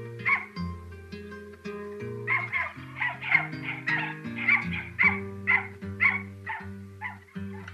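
A dog barks and yelps repeatedly in a quick, steady rhythm, with a few whimpering cries, fairly loud over sustained background music.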